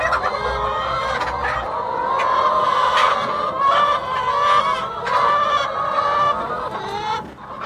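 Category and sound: animal, chickens clucking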